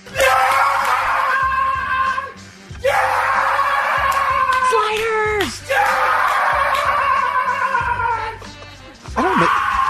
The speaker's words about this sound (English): Can I get Jake Lamb yelling for that? Can I get a little of Jake Lamb for that?